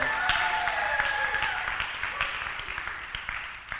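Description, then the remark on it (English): A crowd applauds steadily during a sermon, a dense wash of many hands clapping that holds strong and then slowly tapers off, with a few faint voices mixed in. “And if you applaud one more time, I'll quit and you won't have to listen to me tonight.”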